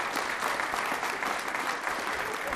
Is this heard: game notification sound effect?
no